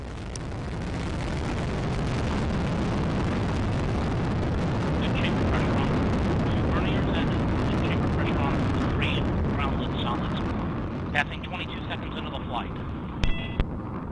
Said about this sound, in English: T-minus 10, 9, 8, 7, 6, 5, 4, 3, 2, 1. We have ignition and liftoff of Aquarius and the SAC-D Observatory on an international mission to study Earth's salty seas.